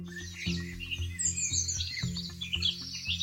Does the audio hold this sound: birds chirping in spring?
yes